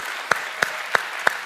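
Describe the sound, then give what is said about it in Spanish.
An audience applauds the Lord Jesus, clapping in unison to a steady beat: four sharp, crisp claps about a third of a second apart over a continuous wash of scattered applause, with no voices. “Fuerte aplauso a nuestro Señor Jesús,”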